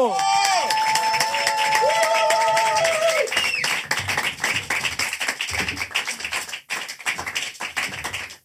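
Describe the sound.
An audience breaks into steady, dense applause with many hands clapping together. It is preceded by a few seconds of sustained, wavering tones, and voices shout over the clapping as it goes on.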